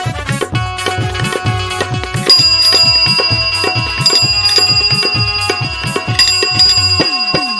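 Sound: bicycle bell ringing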